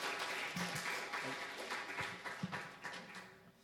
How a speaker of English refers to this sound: Amen. Let's give the Lord a clap for that.